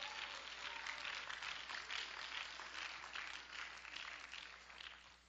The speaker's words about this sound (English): Oh, clap your hands and let's give praise to the Lord.